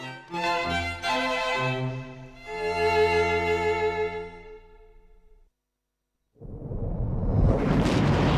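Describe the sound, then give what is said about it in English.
Orchestral music plays, then cuts to a brief silence before a loud, roaring rocket engine ignition bursts in, a dense rumbling blast that swells and intensifies to the end. “That's ignition.”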